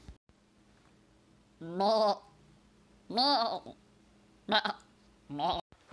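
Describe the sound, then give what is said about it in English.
A goat, the Inspiration Goat, bleats four times in quick succession, loud, with wavering, quavering cries separated by short pauses; the first two calls are longer, the last two shorter. “Come on, Inspiration Goat.”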